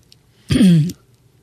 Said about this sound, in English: Okay. I had to clear my throat a little bit. Sorry.